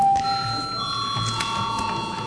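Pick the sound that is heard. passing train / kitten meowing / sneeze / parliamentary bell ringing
parliamentary bell ringing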